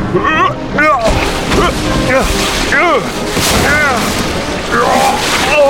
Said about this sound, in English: Timbers groaned and snapped and bulkheads crumpled as the waves drove it against a giant rock.